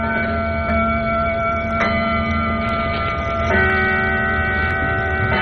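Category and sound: household object, clock chiming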